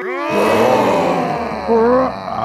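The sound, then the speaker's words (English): Several voices roar together in one loud, sustained burst lasting about two seconds, their overlapping tones forming a rough, ragged chorus of human imitation roars. “How about we all do it at the same time?”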